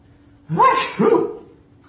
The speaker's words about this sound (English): You're sneezing a lot